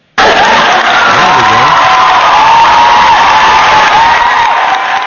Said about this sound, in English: Oh, well, we got to give you some applause for that, you know.